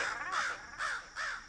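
In a radio station jingle, a raven caws three times in quick succession, with harsh and hoarse calls evenly spaced, loud and with no other sounds around it.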